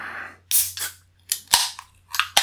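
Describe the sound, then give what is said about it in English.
Beer cans are cracked open: a series of sharp metallic snaps, each followed by a short fizzing hiss, spaced irregularly over a couple of seconds with no talking. “We are going to crack them. Cheers, and we're going to reveal the beers towards the end of the show.”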